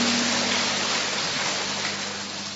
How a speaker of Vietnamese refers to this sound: Chúng ta cho một tràng pháo tay để gặp gỡ người chứng nhân ấy.